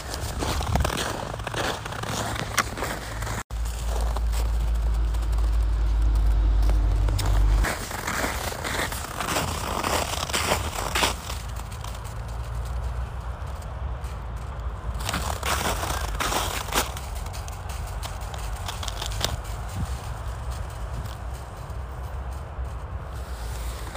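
Crunchy footsteps of two walkers on frozen, crusted snow, a steady overlapping crunch continuing throughout with a low rumble early on and no talking.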